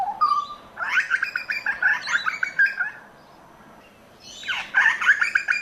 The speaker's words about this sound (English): We've been promoting a 360 documentary on Radio National, RN, at the moment, all about the butcher bird. This is the butcher bird.